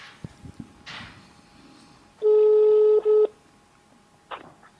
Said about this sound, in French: je vais t'appeler direct avec mon téléphone. Et comme ça, on va discuter ensemble.